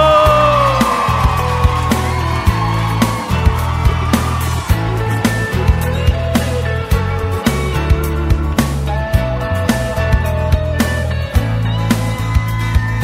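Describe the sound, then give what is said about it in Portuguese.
A crowd whoops, yells and cheers loudly throughout, mixed with live music driven by a steady, pulsing bass beat. The massed voices sound like a concert audience, shouting after the singer calls on those in love to give a shout. “Quem tiver apaixonado aí dá um grito.”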